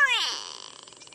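A gray go-away bird, a species of southern Africa's open woodlands and thorn savanna, gives one loud, nasal call, a bright harmonic cry that slides downward and trails off into a rapid, buzzy rattle. No other sounds accompany it.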